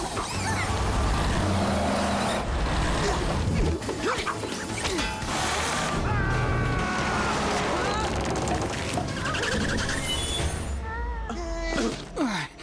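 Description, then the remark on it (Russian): A runaway bus with failed brakes hurtles past, loud: a steady engine roar, screeching and crashing impacts, with frantic shouts and voices throughout. “Автобус!”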